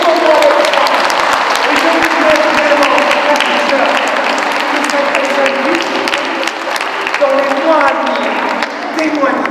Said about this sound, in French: Applaudissez le Seigneur.